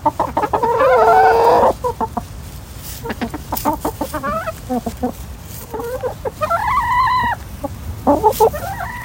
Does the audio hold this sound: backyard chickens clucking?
yes